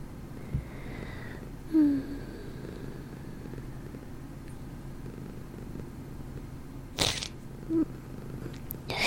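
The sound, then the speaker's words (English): Two or three short, breathy sniffles through a nose stuffy from yawning, over a low continuous rumbling hum, with quiet soft sounds in between and no talking. “For sniffling so much, it's just 'cause I'm yawning so much”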